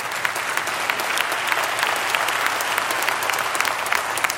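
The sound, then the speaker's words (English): A church audience applauds steadily during a sermon, many hands clapping in a dense, continuous wash of sound that holds at an even level throughout, with no voices standing out. “I have to say, I'm really glad you clapped at that point.”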